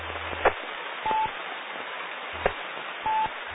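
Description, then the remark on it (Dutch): Two short, steady telephone tones sound about two seconds apart, each preceded by a faint click, with a thin, narrow-band phone-line hiss underneath and no one talking. “De telefoon gaat maar ook.”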